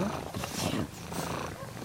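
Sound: cat purring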